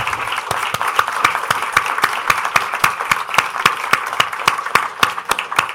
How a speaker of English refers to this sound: Please give a warm round of applause and thanks